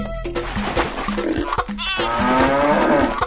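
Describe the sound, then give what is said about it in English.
A milking cow lets out a loud, drawn-out moo, its low bellow rising and holding for over a second, with no talking over it. “To market, to market. For one milking cow.”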